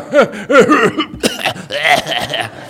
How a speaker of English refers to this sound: You know you're getting older when your laugh turns into a cough. You know that kind of thing where it's like, "Well, that was a good joke."